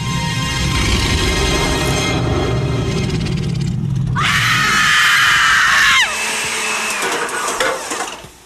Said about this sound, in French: À cause qu'il y a un malaxeur, tu sais, le classique de quand quelqu'un crie, il pèse sur le malaxeur, ça, ouais. ça fait qu'on n'entend plus rien, il l'arrête